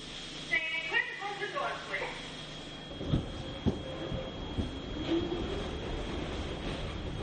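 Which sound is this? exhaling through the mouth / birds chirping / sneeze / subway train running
subway train running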